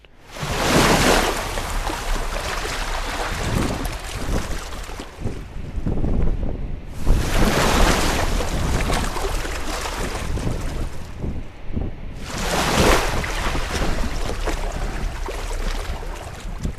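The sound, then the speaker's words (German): Red Sea waves break in three big roaring surges, a few seconds apart, each washing out into a steady rush of stormy wind and churning water, in heat of 45 degrees in the sun. No voices. “Also erst einmal hinsetzen und der Musik der brechenden Wellen lauschen.”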